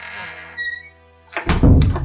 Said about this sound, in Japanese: 今の SE、サウンドエフェクト、大きすぎなかった?ドアが閉まる音、大丈夫かな?